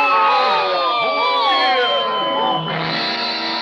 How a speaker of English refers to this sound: we'll all yell boo at him